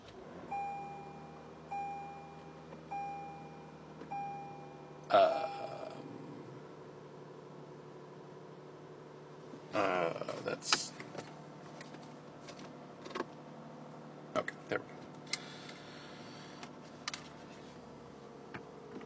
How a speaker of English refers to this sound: Plug that in, start the car, see what happens.